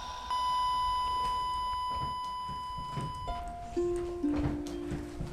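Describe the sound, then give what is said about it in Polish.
A wristwatch alarm sounds: a long, steady electronic tone, then a few shorter tones stepping lower in pitch, over faint background rustle. “To jest ten zegarek.”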